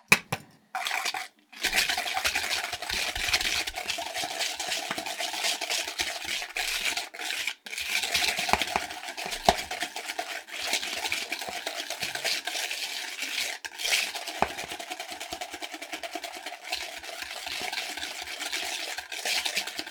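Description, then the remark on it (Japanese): A whisk scrapes and clatters rapidly against a bowl while mixing egg yolks, a steady rhythmic swishing that continues for the whole stretch with only a couple of brief pauses near the start. “で、これは泡立て器で混ぜます。”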